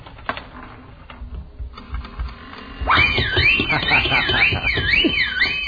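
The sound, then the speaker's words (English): A slot machine played with a nickel whirs and clatters mechanically, then bursts into a loud, warbling bell-like jackpot alarm over a steady rattle of coins spilling out, continuing to the end. “Oh, it's the first time I ever hit the jackpot.”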